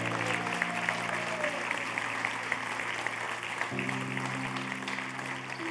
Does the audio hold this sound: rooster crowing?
no